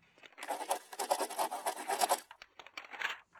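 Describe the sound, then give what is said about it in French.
A pencil scratches rapidly across paper while someone draws a miniature picture of Patapouf, in a dense run of short, dry strokes for about two seconds, then continues in a few sparser, lighter strokes. No voices. “La main est rapide, le crayon glisse et fait du bruit sur le papier.”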